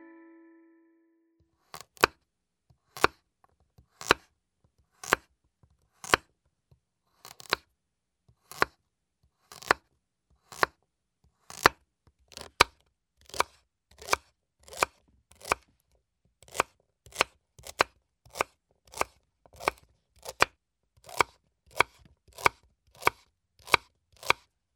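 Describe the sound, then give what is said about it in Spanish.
A knife chops vegetables on a board in a steady series of sharp, crisp knocks, slow at first and then speeding into a quicker rhythm. There is no talking, and a brief tone sounds at the start. “El sonido sorpresa fue el de un cuchillo cortando vegetales.”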